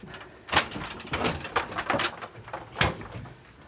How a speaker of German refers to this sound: Ich halte mal die Tür auf. Jawohl.